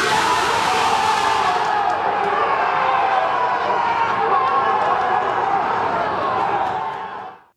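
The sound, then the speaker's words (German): A huge, sustained roar of the Borussia Mönchengladbach football team celebrating beside the pitch of Real Madrid's amateur stadium as they reach the Champions League round of 16, loud and dense with overlapping shouts and yells for about seven seconds before cutting off abruptly. “Ja, das war, glaube ich, nicht zu überhören. Ein riesiger Jubelschrei natürlich.”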